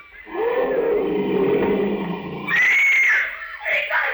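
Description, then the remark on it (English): A lion roars about a quarter of a mile away in a jungle, one long, drawn-out, rumbling growl lasting a couple of seconds, followed by shorter, higher-pitched wailing cries. Loud and full, with no talking over it. “They're just scared by the lion roar. Those lions are a quarter of a mile away.”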